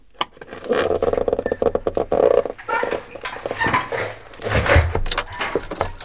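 Keys jangle and rattle in a lock, a run of bright metallic clinks and scrapes followed by a clunk as the door is unlocked; no one speaks.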